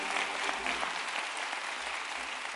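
An audience claps together in steady, sustained applause, a dense wash of many hands filling the room at moderate volume without any clear talking over it.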